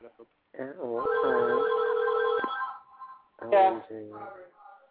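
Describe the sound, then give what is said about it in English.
A steady electronic telephone tone from a home alarm system picking up the phone line sounds for just over a second, fairly loud, while people keep talking over and around it. “You know, at every 2 of the hour, my alarm system picks up the phone.”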